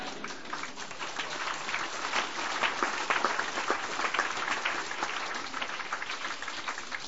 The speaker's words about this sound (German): Okay, jetzt habt ihr geklatscht.